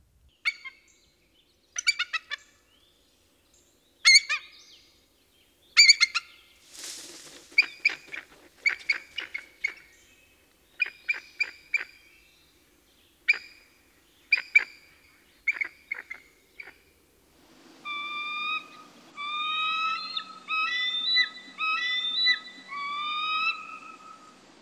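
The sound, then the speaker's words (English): An eagle calls in loud, cackling bursts of rapid staccato notes, repeated in short volleys like a chattering chicken, ending in a stretch of thinner, higher piping notes over a faint background hiss. “If the eagle calls during your visit, you'll hear a sound that most people compare to a loud cackling chicken.”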